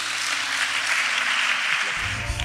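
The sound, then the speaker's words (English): A crowd claps for Jesus during a sermon in a dense, steady wash of applause that holds at an even level throughout, with low sustained musical tones coming in beneath it near the end. “Clap for Jesus.”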